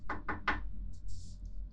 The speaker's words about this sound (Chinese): 等等，有人敲门，来啦！人到了，我现在去给他开门。